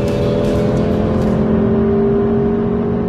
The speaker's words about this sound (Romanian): Să mai ascultăm un pic motorul lui Stelvio atunci când îl calci pe coadă.